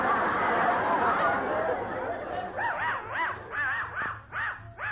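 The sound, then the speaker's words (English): A crowd murmurs in the background, then a dachshund starts barking in quick, high repeated yaps, about seven or eight short bursts rising over the continuing chatter. “Hey, Loco, where'd you get that funny-looking dog?”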